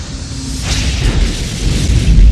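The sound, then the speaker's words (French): A spaceship, a model without autopilot, makes a hard landing on platform E17 at a military spaceport in windless conditions with excellent visibility: a loud, continuous roaring rumble, a brief hissing burst early on, and deep low thunder building toward the end. “C'est un atterrissage à faire tomber, c'est terrible que nous a fait.”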